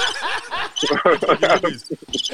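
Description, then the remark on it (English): A phone rings with a busy, trilling, chirp-like tone that pulses in quick bursts and carries on loudly for a couple of seconds. “better answer that phone.”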